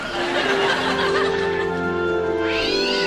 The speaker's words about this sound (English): God, these cats are driving me nuts.